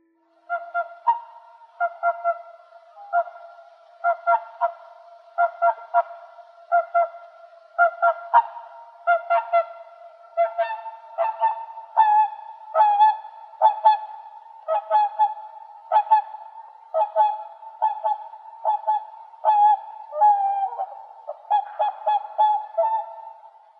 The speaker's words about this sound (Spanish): El sonido sorpresa de hoy fue el de un animal muy hermoso que muy pocas veces tenemos la oportunidad de ver. El sonido sorpresa de hoy fue el de un cisne.